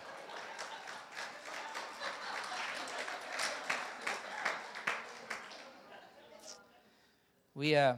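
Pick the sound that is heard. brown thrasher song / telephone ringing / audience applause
audience applause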